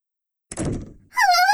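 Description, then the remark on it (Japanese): After a moment of silence, a door shuts with a single dull thud, followed right away by a brief, wavering high-pitched squeal. “ドアを閉めないでください。”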